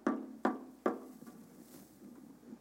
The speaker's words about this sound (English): So imagine if you got up tomorrow morning and you heard a knock on your door.